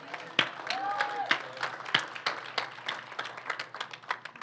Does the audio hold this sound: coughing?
no